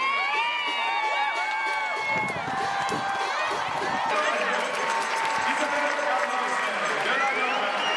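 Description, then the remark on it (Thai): A large stadium crowd of Thai football fans cheers loudly and continuously at a women's match between Thailand and Norway, as Thai goalkeeper Waraporn Boonsing saves a Norwegian penalty in the 75th minute; a dense roar of many voices with shouts and whoops rising above it for the full eight seconds. “โดยเฉพาะในช่วงที่โกของไทยวราพรบุญสิงห์สามารถเซฟลูกจุดโทษของนอร์เวย์ได้ในนาทีที่75ซึ่งกองเชียร์ไทยส่งเสียงเชียร์ดังสนั่นอัศจรรย์ดังยิ่งกว่าตอนที่นอร์เวย์ทำประตูได้สิครับ”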